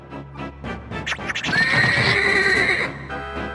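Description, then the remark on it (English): In an animated battle scene, Luca's horse screams with a loud, shrill, drawn-out cry lasting over a second as it is killed by arrows, preceded by a few short rough snorts and clatter, with no talking. “Arrows then come out of nowhere, taking out some of Luca's guard and killing his screaming horse.”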